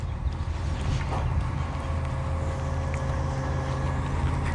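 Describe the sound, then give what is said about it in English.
The large diesel engine of an idling garbage truck, heard while walking past it: a steady low rumble with a faint mechanical hum running unbroken for the whole stretch. “Walking past this trash truck.”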